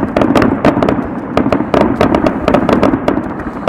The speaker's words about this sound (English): Blowing a whole lot of fireworks there. Oh my God, we're clipping. It looks like they're getting closer and closer to us.